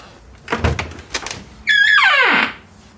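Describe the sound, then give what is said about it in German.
A couple of soft knocks and latch clatters, then the door of an escape room swings open with a long, loud creaking squeal that slides down in pitch, with no talking. “Sollen wir mal durch die Tür gehen?”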